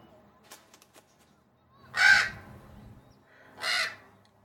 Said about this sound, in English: American Crow. Phoneme currently untranslatable. Adding to localized avian phoneme database. With a few more data points, I think I could learn to speak the Crow's language.